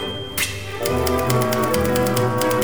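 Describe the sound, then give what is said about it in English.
Brisk orchestral music with rapid, evenly spaced typewriter clacks played as percussion, keeping a steady beat over the melody at a lively, moderately loud level. “To play us out, here's a little bit more of that fun typewriter music.”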